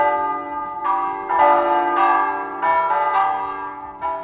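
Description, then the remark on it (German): Church bells of the Protestant church in Schöller, west of Wuppertal, peal loudly, several bells overlapping in a continuous, rolling ring with repeated strikes and long sustained tones, no voices present. “Zu Kirchen gehören Glocken und Glocken müssen läuten.”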